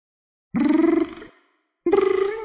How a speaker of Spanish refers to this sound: Llamada al teléfono.